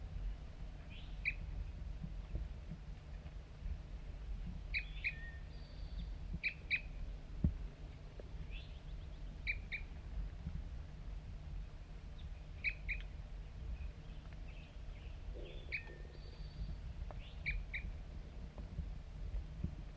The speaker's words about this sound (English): Pointed at the wild bird. Here it comes. One lone bird. And it's real nearby right now.